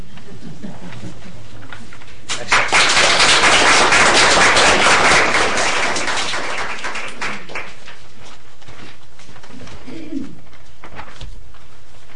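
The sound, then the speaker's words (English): While a map is being made, a label printer whirs loudly for a few seconds in a dense, rhythmic mechanical burst, then fades, leaving faint scattered squeaks of a marker on a quiet background. “Markers squeaking, labels printing.”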